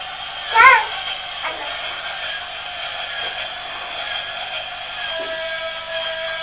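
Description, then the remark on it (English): A toy train runs with a steady, buzzing mechanical whir that stays level throughout, broken early on by a short, high chirping whistle. No one speaks. “Shout, all aboard, train to Manchester.”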